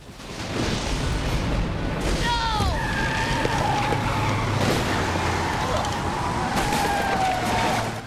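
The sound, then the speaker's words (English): A white lorry brakes hard on a road, its tyres letting out a loud, drawn-out screech that slides downward in pitch over a steady low engine rumble, continuing for several seconds. “Revenant spots him and slams on the brakes.”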